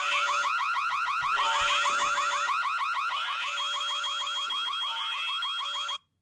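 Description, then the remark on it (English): A fire alarm sound inside a song blares with a rapid, repeating electronic warble, loud and steady for about six seconds before cutting off abruptly. No one speaks over it. “I love how they had to, you know, put a fire alarm in there.”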